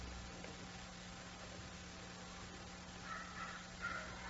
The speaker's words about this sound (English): and so when we seem stuck, when I feel stuck, there's just that bird singing.